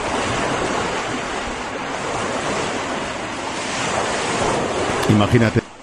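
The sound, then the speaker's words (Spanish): Ocean waves crash in a continuous, loud roar with strong wind buffeting the microphone, and a brief voice-like sound breaks through near the end. The waves are at sea on a crossing by small boat (patera) carrying about 50 people from Morocco toward the Canary Islands. “Una travesía de más de 8 horas luchando contra las embestidas de las olas.”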